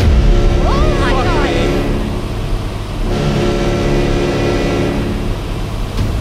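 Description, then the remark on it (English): Powerful engines of fast boats heading in and blocking off a bay roar loudly and steadily, a thick, low drone with revving swells that hold for the whole stretch, and a brief rising whine near the start. “Whatever those boats are, they're making good time.”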